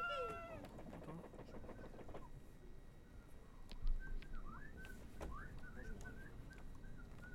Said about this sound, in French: J'adore les chants des oiseaux. Même moi, c'est presque... Mais c'est un peu bizarre. Mais c'est hyper mélodique. Je me demande si c'est des... Tu sais, si c'est des tonalités qu'on peut reproduire sur des instruments.